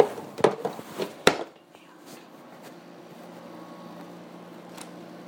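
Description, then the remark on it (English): A kitchen utensil is set back into a drawer with a few quick clinks and rattles, ending in one sharp knock, followed by a low steady hum. “Guy back in the drawer here.”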